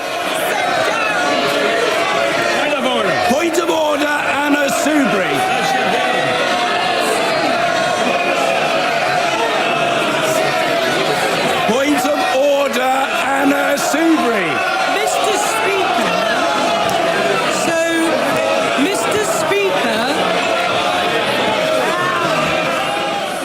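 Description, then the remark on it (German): A loud, dense roar of many voices shouting and calling out at once in a parliament chamber, a constant din of overlapping jeers and cheers with no pause throughout; the words "Mr. Speaker" can be heard through the noise. “Ja, der eine oder andere hat vielleicht durch den Lärm hindurch das Wort Mr. Speaker gehört.”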